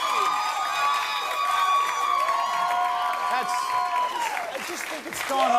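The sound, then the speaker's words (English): A crowd applauds steadily and loudly for several seconds, with cheers and whoops rising above the dense clapping, and a brief dip just before the end. “Nobody, no clapping.”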